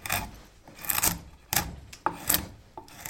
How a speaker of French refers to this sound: Travail de la gouge.